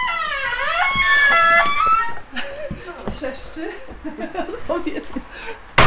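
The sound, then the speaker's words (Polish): A door creaks open with a drawn-out, wavering squeal lasting about two seconds, fairly loud, before people start talking. “Skrzypi. Skrzypi historia.”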